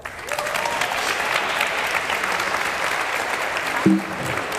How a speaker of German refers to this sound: Beifall.